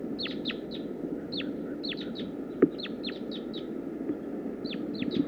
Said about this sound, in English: That's the female. I'm at about 10 yards. Stop. Start recording wild bird. Wild female. Wild female. More wild birds are coming in now.